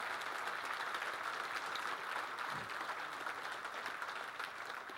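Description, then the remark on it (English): Sustained applause from a crowd of men giving the Lord a round of applause, a dense steady wash of clapping that fills the whole stretch at a fairly even level, with no voices standing out. “Let's give the Lord a round of applause, men.”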